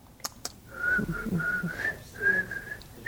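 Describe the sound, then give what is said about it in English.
Someone tries to whistle, producing a thin, breathy tone in short, broken bursts that waver and falter. Two quick clicks come just before, and nobody speaks. “Do you whistle? I can't whistle anymore.”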